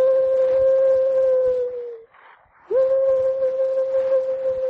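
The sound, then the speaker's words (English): A human voice imitates a bird call with two long, steady, hooting tones separated by a short pause, loud, with faint background noise and no talking. “I make a bird call.”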